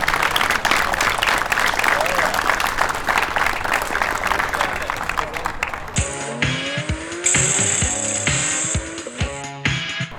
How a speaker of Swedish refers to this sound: En applåd för King of Mantorp klubb.